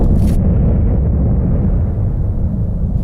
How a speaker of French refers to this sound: Le cratère explose, les gens sont morts, la chambre déborde, de la cheminée coule la vapeur.